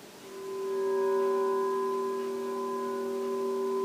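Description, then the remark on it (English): A sustained electronic tone built from several steady, inharmonic partials fades in and holds evenly at moderate loudness, a bright, bell-like drone with no other sounds. The tones are a pseudo-octave apart, their inharmonic partials share common frequencies, and both the pitch division and the partials are based on phi. “tones at an interval of a pseudo-octave have inharmonic partials that have common frequencies.”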